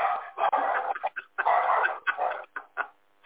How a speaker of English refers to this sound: Watched him come up to the door, and I'm not answering it, but the dogs I knew were about to light him up.